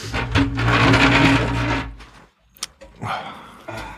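A flipchart stand that has wheels is slid rather than rolled across carpet and over various cables, making a loud, grinding scrape with a low rumble for about two seconds. A sharp knock follows, then a shorter scrape and a few faint bumps.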